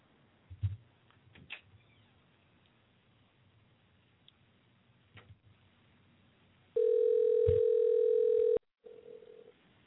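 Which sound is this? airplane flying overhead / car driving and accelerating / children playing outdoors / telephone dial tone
telephone dial tone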